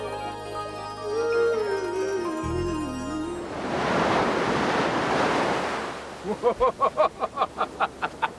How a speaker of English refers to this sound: That one almost got me. I'm avoiding the waves today because it's still early spring here and the water's just a little bit cold. But I love coming down to the ocean's edge and watching the surf. Today here on Long Beach, the waves are not too big